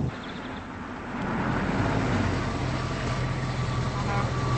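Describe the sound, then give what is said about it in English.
A car engine rumbles, its low drone swelling after about a second and then holding steady at a slow crawl as the car pulls up to a diner, with no voices present. “She pulls closer to the diner.”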